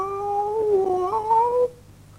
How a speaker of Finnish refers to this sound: Miau, me seuraamme sinua ja autamme, miau. Avaa sateenvarjo, niin me hyppäämme sen päälle ja ajamme liukurataa pitkin sateenkaarta alas, miau. Sanoo pienin kissoista.